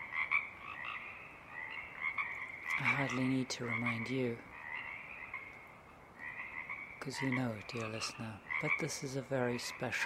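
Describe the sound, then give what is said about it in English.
A dense chorus of frogs croaks steadily in Tektexan Marsh on Saturna Island, British Columbia, at 4:30 a.m. before dawn, winding down; a continuous layered trilling from many calls at once, while a man speaks calmly over it in two stretches. “The frog chorus is winding down, and the waking song sparrow begins to be heard.”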